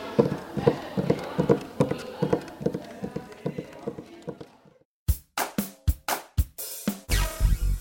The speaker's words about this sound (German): Wir schwingen uns jetzt auf die Pferde und reiten weiter in den Bundesrat.